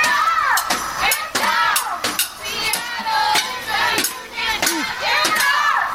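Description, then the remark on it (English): A crowd of union supporters in Seattle chants "Get up, get down. Seattle is a union town" in unison while banging on drums, the steady, loud beats hitting roughly twice a second, the many raised voices rising and falling in a rhythmic call. “So here's some sounds of union supporters in Seattle chanting, "Get up, get down. Seattle is a union town." Banging on drums.”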